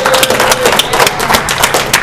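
A crowd at a Narcotics Anonymous gathering of the Oklahoma region claps for a speaker in a dense, steady burst of applause, many overlapping hand claps forming a loud, continuous patter that holds for about two seconds.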